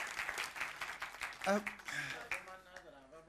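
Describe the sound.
Steady audience applause, a dense patter of many hands clapping at moderate loudness, with voices calling out and speaking over it in the second half.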